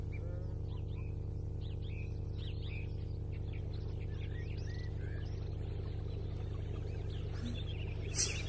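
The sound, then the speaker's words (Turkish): On a sunny day, many birds chirp and sing continuously, quick overlapping tweets and short whistles, over a steady low droning hum that runs throughout. “Kuşlar cıvıl cıvıl ötüşüyorlar.”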